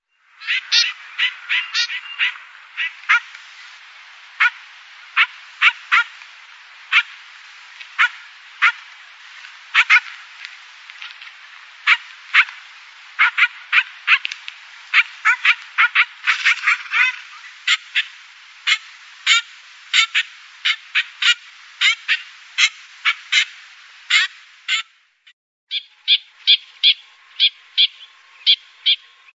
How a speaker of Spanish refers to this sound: Parece un perrito, al final. Bueno, lo de la trompeta está muy bien. La trompeta, por eso se llama trompetero. Sí, lo de la trompetilla está muy bien. Sí, parece que no lo hace el pájaro, pero sí, eso es lo que hace, ese es su canto.